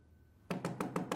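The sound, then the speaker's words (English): Five quick, firm knocks on a door, evenly spaced, following a brief moment of quiet. No voices accompany them. “When you knock on the door and they don't open the door, they're either not home or they don't want to open the door.”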